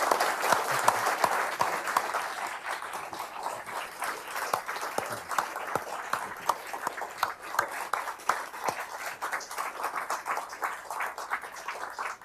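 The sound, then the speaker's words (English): A crowd applauds Richard Haass, president of CFR, steadily for about twelve seconds, many hands clapping in a dense, continuous patter that stays fairly even in loudness from start to finish, with no talking over it. “And I think it's fitting to start with, if everyone would, a round of applause for Richard Haass.”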